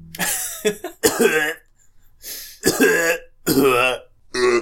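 A run of about six harsh, throaty coughs at the start of a song, loud and uneven in rhythm, with short pauses between bursts and a rough voiced edge to several of them.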